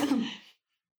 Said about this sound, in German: Warte, ich muss auch kurz husten.